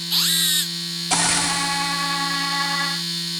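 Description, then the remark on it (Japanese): A vibrator buzzes in two bursts: a short electric whine that climbs in pitch, a brief pause, then a longer, steady rattling hum that cuts off. No one speaks. “ほら、まだまだ新しいバイブがたくさんあるのよ。”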